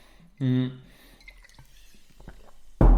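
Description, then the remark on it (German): Someone takes a quick sip of water in a home office. Faint slurping and small wet drips follow a brief humming tone, and a louder rustle cuts in at the very end. “Ich nehme jetzt mal schnell einen Schluck Wasser.”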